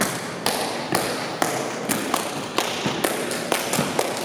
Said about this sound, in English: What you're hearing right now is the dancing and percussion of a group